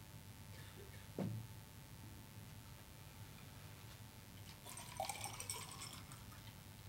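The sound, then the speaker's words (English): A soft clink, then a few seconds later a brief splashy trickle of water being poured into a glass, quiet, with no talking. “Let's get some water, sorry.”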